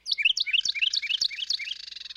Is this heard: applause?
no